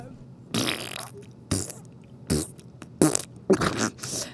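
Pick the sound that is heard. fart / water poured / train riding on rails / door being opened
fart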